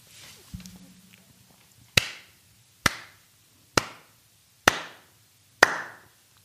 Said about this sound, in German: Du musst klatschen.